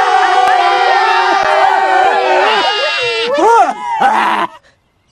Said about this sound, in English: when they finished marching, the priests blew one long blast, and then all the people yelled.